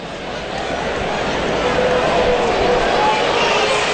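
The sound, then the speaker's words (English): A large hockey crowd lets out a sustained wave of oohs and aahs, a loud, steady roar of many voices blending together that holds throughout without letting up, reacting after a player took a massive hit and lies unmoving on the ice as a stretcher on wheels comes out. “He took a massive hit. Oohs and ahs all around, and real concerns here.”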